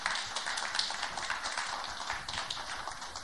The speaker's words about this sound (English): Please give a big welcome and a round of applause